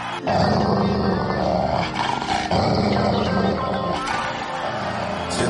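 A dog growls and snarls loudly in a continuous, fierce rumble, broken by only a few brief pauses, with no one talking.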